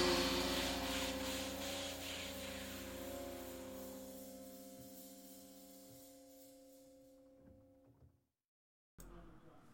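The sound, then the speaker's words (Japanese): A loud car parked outside rumbles with a steady low drone, shaking the ground and the house floor, strong at first and slowly fading over several seconds, then a short silence before another burst of noise. “なんか外にうるさい車が止まってるので、ちょっと音が入ってきちゃうんじゃないかなって不安なんですけど、地響きしてまして今家が床が揺れたんですよねなんかやばいな、大丈夫かな”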